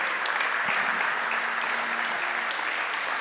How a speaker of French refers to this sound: ces applaudissements timides, c'est parce qu'on est ici chez les Congolais. Les Congolais n'ont pas l'habitude de s'encourager.